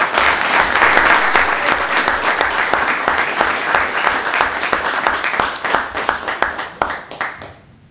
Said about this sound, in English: Once again, round of applause for Dr.